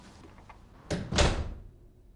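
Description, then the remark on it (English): A man shuts the front door of an apartment in one solid, heavy thud with a brief rattle of the latch, then the sound fades quickly into quiet. No one speaks. “He shuts the front door.”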